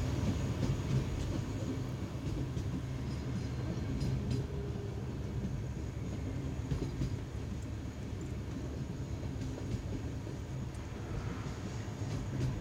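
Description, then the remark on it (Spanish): A train rumbles steadily along the rails, a continuous low, dense roar with faint rattling and occasional light clicks, holding an even loudness throughout with no voices. “A velocidades tan ridículas como la que el tren llevaba en aquella época, cualquiera puede detener el tren”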